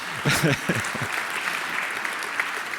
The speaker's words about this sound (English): We got this very nice plotter from Exhein. Here, applause for Exhein, please.